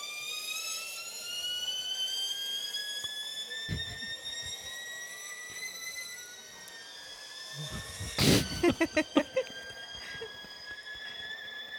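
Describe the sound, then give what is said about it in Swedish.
A video of the PVR 001 sports car accelerating hard from 0 to 100 km/h in 2.9 seconds: its loud engine whine climbs steadily in pitch and drops back at a couple of gear changes, followed by a quick series of sharp crackling pops. “Vi har alltså en video, det står PVR 001, 0-100 km/h på 2,9 sekunder. Nu ska vi kolla hur det låter.”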